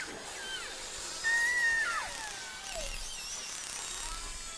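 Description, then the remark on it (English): Underwater beluga whale calls recorded by hydrophone from a small inflatable boat in summer: high, thin whistles and chirps that sweep up and down in pitch, overlapping one another above a steady wash of hiss, with one sharper, louder whistle standing out. “Hydrophones are microphones designed to be used underwater for recording or listening to underwater sound. We took these recordings”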